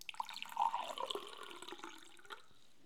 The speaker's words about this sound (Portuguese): Ela serviu-lhe um copo de água fresca.